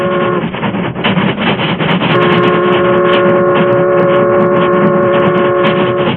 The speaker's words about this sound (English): The Union Pacific, pride of the West, was roaring across the open stretches where vast ranches separated the small crossroads communities.